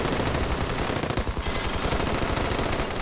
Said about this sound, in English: the police traded gunfire for over an hour.